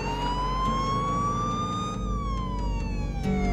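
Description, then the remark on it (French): The siren of a fake police car wails steadily, its pitch slowly rising and then sliding back down, over a constant low rumble of engine and road noise. No one speaks. “était au volant de la fausse voiture de police”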